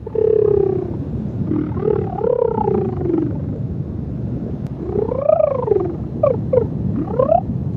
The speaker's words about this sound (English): That's what it sounds like to swim around and talk to some of the sea life in a new virtual reality game called The Lost City of Myrrh.